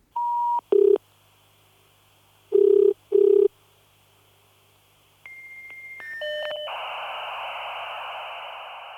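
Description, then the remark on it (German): A dial-up modem connecting: a few short dialing tones, a pause, then rising handshake squeals and shifting whistles that settle into a loud, steady hiss of static. No one speaks. “Wird das Rauschen des Modems eines Tages den fesselnden Bericht des Imbongi ersetzen?”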